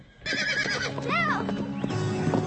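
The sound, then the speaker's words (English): A Western Quarter horse lets out a loud whinny lasting a couple of seconds, its pitch rising and wavering before trailing off, with no voices around it. “Do you know much about Western Quarter horses?”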